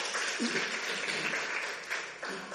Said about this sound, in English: Okay, give a big hand clap.